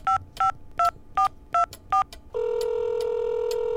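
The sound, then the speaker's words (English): Six quick, evenly spaced telephone keypad tones beep in a steady rhythm as a number from a phone bill is dialed, each a short two-pitch chirp, followed by a continuous electronic tone from the phone line that holds clear to the end, before reaching the congressional office of Gary Condit. “Robert dialed.”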